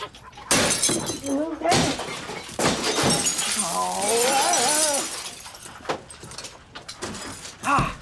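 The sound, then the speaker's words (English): Glass shatters in a few loud crashing bursts with bright, splintering tails, while a voice cries out over the middle stretch. “I told you I wanted to break the big glass.”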